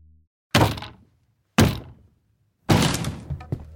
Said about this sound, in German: Ein lauter Knall. Die Tür gibt nach. Die Spezialkräfte stürmen ins Gebäude.